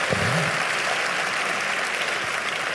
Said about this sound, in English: We didn't ask you to clap, so if you're going to praise God's grace, praise His grace well.